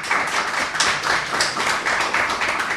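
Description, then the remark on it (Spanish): An audience of secondary-school (ESO) students in a computer classroom claps steadily for a few seconds, a dense patter of many hands with no voices rising above it. “Hola, público. Un aplauso, por lo menos.”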